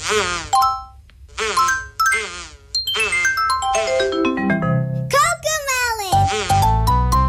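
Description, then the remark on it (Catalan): Cheerful theme music from a preschool cartoon series: a bright, childlike voice sings a bouncy melody over chiming, bell-like notes, loud throughout. “Ens ho preguntarem i també us preguntarem a vosaltres si us sona aquesta música.”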